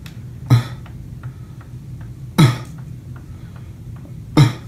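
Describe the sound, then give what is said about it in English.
Three single deliberate coughs done as an exercise by a person recovering from kidney donation surgery, at steady intervals of roughly two seconds, each short and harsh, with a faint low hum and light ticking in between and no one talking. “And then I have to do coughs with my cough buddy 3 times an hour.”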